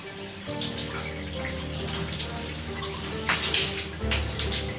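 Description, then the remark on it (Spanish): Steady hot shower water pours and splashes continuously, a dense hiss with brief brighter spatters, moderately loud, with a low hum running underneath, as a man scrubs himself under it in a ship's cabin. “Se fregó y se refregó bajo una lluvia caliente.”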